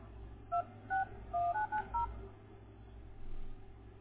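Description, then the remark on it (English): A quick series of six telephone keypad touch tones, short electronic beeps pressed one after another in an uneven rhythm, entering a member's date of birth into an automated healthcare phone menu. Heard clearly over a faint, hissy phone-line background. “Please say or enter the complete date of birth of the member you're calling about.”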